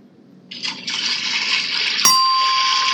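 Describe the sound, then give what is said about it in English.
Swimming race splashes and churning water rise under a steady roar of crowd noise, then a sharp bright ding rings out and lingers as the splashing and cheering continue. “Swimming. Correct. The crowd noise. I'm didn't get a chance. Splash. Swimming.”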